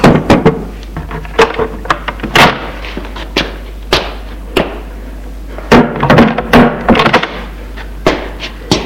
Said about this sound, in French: Il frappe et entre.